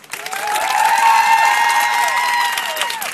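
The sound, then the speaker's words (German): People inside a car clap and scream as loud as they can, a loud burst of clapping and high-pitched screaming, dense and sustained for a few seconds before tapering off slightly at the end. “weil wir wollen jetzt mal kurz testen, wie das klingt, wenn alle hier klatschen und schreien, so laut sie können.”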